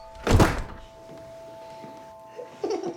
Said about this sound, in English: He crosses to the door, then turns back to his young children. Good night. He pulls the door shut.